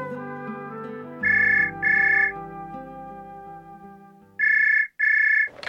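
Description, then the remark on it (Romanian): A telephone rings in two double bursts, each a pair of bright electronic trills, with a pause between pairs, over a quiet musical bed; clear, no talking. “Surpriza aceasta doreau să l-o facă acum la telefon.”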